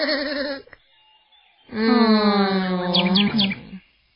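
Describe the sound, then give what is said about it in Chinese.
Winnie the Pooh and Tigger, exhausted, give two weary moaning groans: a short wavering one, a pause, then a longer drawn-out groan that lifts slightly at the end before trailing off. “不过小熊维尼和跳跳虎只有发出小小呻吟声，因为他们累得连解释的力气都没有了。”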